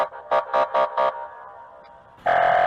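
An Italian police car siren: four short, evenly spaced buzzy blasts, a brief lull, then a loud sustained two-tone wail starting up, with no voices.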